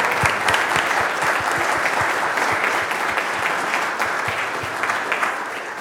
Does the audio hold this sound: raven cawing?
no